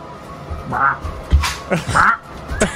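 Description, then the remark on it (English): A person voices harsh, nasal squawks in imitation of a parrot, a few raspy bursts with brief gaps between them. “Why do you make me like a parrot where I'm always doing this?”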